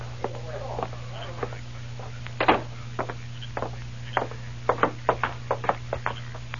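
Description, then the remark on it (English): Sharp knocks on a door, scattered at first and then a quick run of raps near the end, heard against a steady low hum, with faint voices in the background. “It is the door.”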